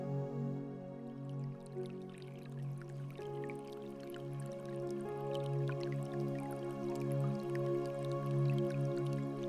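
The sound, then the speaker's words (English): A small stream of water trickles steadily down a stack of rocks into a pond in a walled garden, with scattered drips and splashes over a continuous low liquid murmur, with no voices. “You arrive at a little pond, and there's a small stream of water trickling down a stack of rocks into the pond.”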